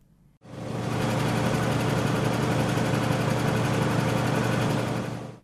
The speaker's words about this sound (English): A din of boat engines rumbles around me.